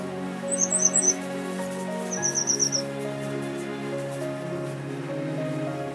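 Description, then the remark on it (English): Two quick bursts of high, chirping bird calls ring out over a steady wash of a flowing, willow-lined stream on Tenerife, the first rapid and twittering, the second a short repeated trill, with no voices. “Willows line the stream, dragonflies hover over the pools, and many species of birds come to drink, such as the grey wagtail, known locally as Alpispa, always wagging its long tail.”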